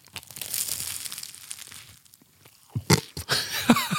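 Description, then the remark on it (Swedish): Dry flakes crumble and patter down in a steady crackly rustle, then a brief lull before several sharper crunching snaps and crinkles toward the end. No one speaks. “Men det, hör nu får ni höra. När det också ramlar flarn.”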